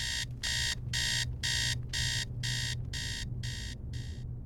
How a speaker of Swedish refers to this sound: Morgon. Klockan ringer. Skärmen bländar mina ögon.